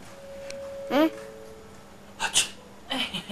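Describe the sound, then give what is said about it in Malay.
A person playing a doctor gives a brief sneeze sequence: a rising voiced intake followed by sharp breathy bursts and a softer trailing puff, heard against a quiet background hum. “Dokternya bersin.”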